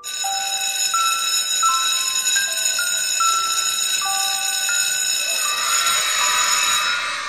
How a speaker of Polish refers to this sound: Właśnie zadzwonił dzwonek.